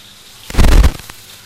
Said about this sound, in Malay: Ini masukkan air.